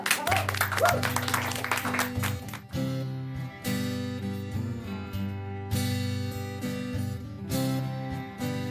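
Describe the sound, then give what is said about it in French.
Audience applause crackles loudly for the first couple of seconds over sustained band music, then fades as the music continues on its own. “Merci. Applaudissez-vous.”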